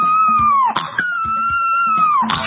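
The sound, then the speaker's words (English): A boxer puppy howls in long, high, wavering tones that slide downward, broken by short rough snorts and a steady rhythmic snuffling underneath. “it's a boxer puppy that can't help snorting when he howls.”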